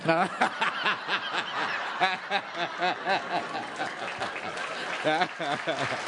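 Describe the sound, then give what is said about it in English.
An audience applauds steadily for about six seconds, a dense wash of clapping with bursts of laughter and chuckling voices riding on top throughout. “Yes, I'm applauding that too.”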